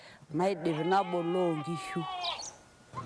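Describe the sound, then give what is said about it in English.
A sheep from a herder's flock in Kiserian bleats in one long, wavering, quavering call lasting a couple of seconds, followed by a faint high chirp and soft outdoor background noise. “I then check on the sheep's health, and I tend to the sickly ones.”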